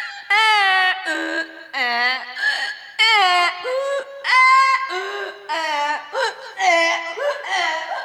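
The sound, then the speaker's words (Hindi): A voice imitates a donkey braying in a field: a long run of loud, strained, wailing hee-haw bursts that rise and fall in pitch, repeated in an uneven rhythm for several seconds. “अरे लगता है कोई गधा खेत में घुस गया है। हाँ भाई, आवाज तो उधर से ही आ रही है।”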